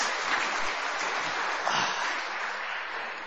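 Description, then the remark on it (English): An audience at a church service at St. John's claps steadily, a dense, even wash of many hands with no pauses, holding at a fairly constant level for the whole few seconds and tapering only slightly at the end. “Give the guy a round of applause.”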